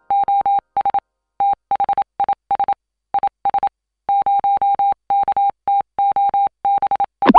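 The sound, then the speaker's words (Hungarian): A steady, mid-pitched tone keys on and off in short dots and longer dashes, spelling out Morse code at a brisk, clean rhythm with brief pauses between groups, ending in a short burst of noise. “A műsorszám morze megjelenítést tartalmazott.”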